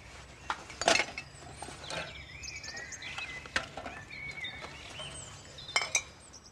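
Light metallic clinks and clatters as beer cans left by partying friends are gathered up at a grave, several sharp bright hits spaced irregularly, with softer rustling and shuffling in between, no talking.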